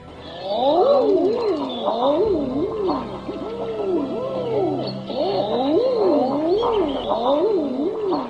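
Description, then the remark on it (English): A chorus of common eider ducks giving soft, rising-and-falling crooning "ah-ooo" calls, many birds overlapping continuously with no talking. “Wonderful sound and a beautiful bird. And quite a hardy duck it is too, when you consider where it breeds high up there in the Arctic.”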